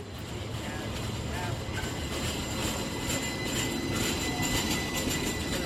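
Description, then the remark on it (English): A light rail train of Portland's MAX network runs along its tracks with a steady rumble, a faint high squeal and some light rattling over about six seconds. “You can ride the clean, modern overground light railway, the MAX, or the streetcar network.”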